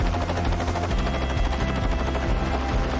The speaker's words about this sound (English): The helicopter then takes off, disappearing into the low clouds of a valley beyond.